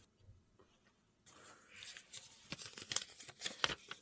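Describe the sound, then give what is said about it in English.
Paper rustles and tears in quick, crackly bursts after a brief near-silent pause, as slips of paper are handled, pulled apart and each person picks their own, at a soft level with no talking. “I think we all know what sizes of paper we yeah, were. That's, I think we're all picking our own.”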